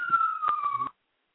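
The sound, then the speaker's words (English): An ambulance siren wails in the background as a steady, slowly falling tone, fairly prominent over some background noise, then cuts off abruptly after about a second. “Okay, and it looked like we had a little bit of noise there on the show with the ambulance in the background, but hey, I guess everything's an emergency.”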